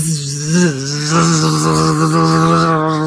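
A loud, continuous bee buzzing drones at a low, steady pitch, wavering upward briefly near the start and then holding strong and rough for the rest, with no one talking.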